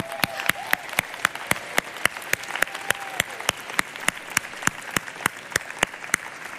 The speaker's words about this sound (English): So I would like to start this segment by giving your family a round of applause, okay?